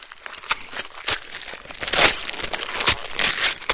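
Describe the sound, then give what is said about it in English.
Wrapping paper crinkles and rustles continuously, broken by sharp crackling bursts and a few brief tearing sounds as presents are unwrapped, with no voices. “I open my presents.”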